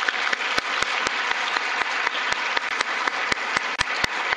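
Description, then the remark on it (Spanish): An audience applauds a guest speaker at the close of a talk, steadily, a dense wash of many hands clapping with a few sharper, louder claps standing out, sustained evenly throughout with no voices. “los invitamos a darle un fuerte aplauso.”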